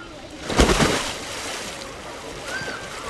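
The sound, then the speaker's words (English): Water splashes in a short burst as someone swims in a pool, then settles into softer sloshing and lapping, with a faint hollow echo behind it. “Well, while Pegoraro was tracking down his search function, I decided to go for a swim.”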